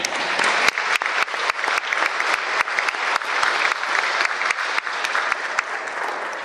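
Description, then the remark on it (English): Sustained applause from a sizable audience for Mayfield Mayor Kathy Onan, dense overlapping claps holding steady and fairly loud for several seconds with no speech over it. “You deserve at least 2 rounds of applause.”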